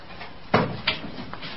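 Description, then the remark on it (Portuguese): A door being opened: a solid wooden clunk, then a sharper latch click and a faint later tap, heard alone. “Pronto. A porta está aberta.”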